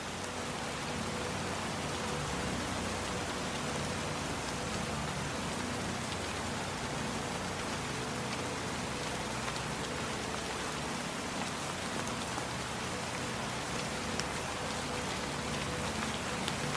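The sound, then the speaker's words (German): Steady rain falls continuously outside, a dense even hiss with soft patter of drops on surfaces, unchanging throughout, with no voices. “Während draußen der Regen weiterfällt.”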